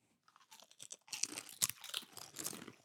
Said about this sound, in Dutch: Ik neem even een hapje.